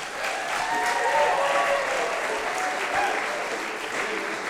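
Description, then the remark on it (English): An audience in San Francisco applauds warmly, a steady wash of clapping at an even, fairly loud level throughout, with a few faint cheers mixed in, welcoming the band a band for their San Francisco debut. “So let's make them welcome their San Francisco debut, ….”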